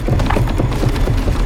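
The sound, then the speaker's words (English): A wooden door leading outside from a kitchen creaks and splinters under strain as a thin crack stretches up the wood, a dense run of low, crackling snaps and knocks that keeps up steadily, loud throughout, with no voices. “A thin crack stretches up the wood.”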